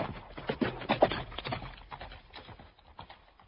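A lord's horse's hooves clip-clop in a quick, uneven series of hollow knocks as the lord departs, strongest in the first second and gradually growing softer toward the end.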